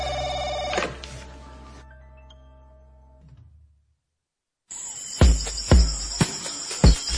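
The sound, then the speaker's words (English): A telephone rings loudly, a sustained high trill broken by sharp repeated clacks, after an earlier ringing tone fades away into a brief silence. No one speaks. “Now you can answer the phone.”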